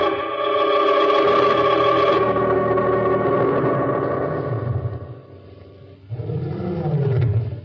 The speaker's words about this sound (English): Somewhere in the distance, a lion roared.